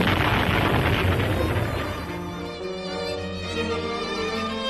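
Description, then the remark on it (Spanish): A heavy cannon shot fired at the castle of Galeras as a signal booms out with a loud, broad rumble for about two seconds, then fades into a sustained tonal ring as music carries on underneath. “Una contraseña, un cañonazo en el castillo de Galeras será la señal.”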